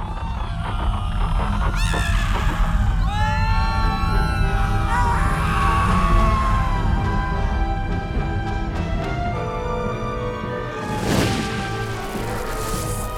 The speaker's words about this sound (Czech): Poslouchejte! Co je to? To je zemětřesení!